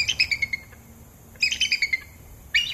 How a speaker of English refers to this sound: That's the bald eagle. Can't mistake it. That's quite a sound. When I come in the mornings, I hear her all the way from the parking lot. So I hear her calling and talking.